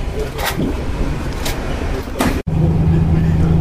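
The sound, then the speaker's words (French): A Monts Jura bus bound for Pontarlier drives past without stopping despite people signalling, with a loud, steady engine drone and a few sharp clunks, then the sound shifts to a lower, even motor hum, with faint indistinct voices underneath. “Le bus des Monts Jura qui va plus vite pour Pontarly nous est passé devant sans s'arrêter alors qu'on a fait des signes.”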